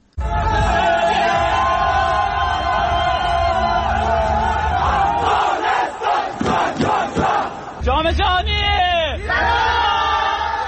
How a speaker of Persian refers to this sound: باشندگان ولایت‌های مختلف به گونه گروهی با پایکوبی و شور و هیجان از این پیروزی بی پیشینه تیم فوتسال افغانستان استقبال کردند.